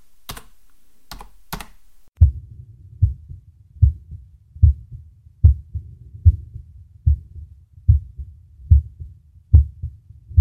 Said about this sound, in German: Da ist er, mein Herzschlag.